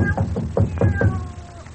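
A cat meows repeatedly in quick, wavering cries, slightly muffled from the other side of a door, with a low background rumble and no talking.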